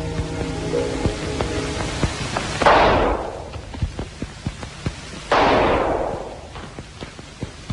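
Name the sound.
two gunshots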